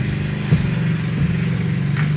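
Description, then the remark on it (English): Bernie's lawnmower engine drones steadily, a low rough hum with a pulsing rattle that holds constant throughout, loud and continuous with no voices. “Who lawnmower? Oh, Bernie's lawnmower.”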